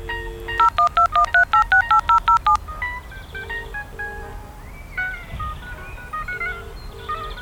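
telephone keypad dialing tones

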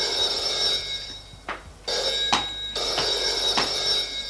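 telephone bell ringing

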